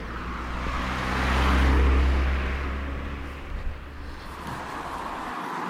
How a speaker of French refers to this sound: Bon, y a deux voitures qui se suivent, ça, à mon avis, c'est un phénomène. Écoutez. Une Scénic. Une Corsa. Une deuxième voiture.